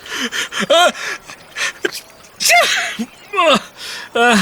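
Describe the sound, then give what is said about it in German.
A string of loud sneezes, four or five in quick succession, each a sharp breathy burst with a voiced catch, separated by short pauses and small gasping inhales. “Oh. Gesundheit.”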